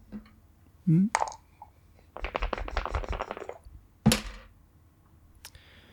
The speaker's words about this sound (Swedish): Vill du pressa? Jag kan testa att pressa och slå om 2 tärningar.